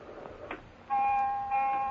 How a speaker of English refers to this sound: The alarm you are hearing is the general alarm, the initial alarm.